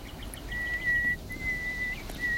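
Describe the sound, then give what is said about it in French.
A male nightingale's contact call, answering human whistling, one of three males about 20 metres apart: three long, pure, steady whistled notes in quick succession, clear, over a faint low rumbling background with no talking. “Ça y est, cri de position.”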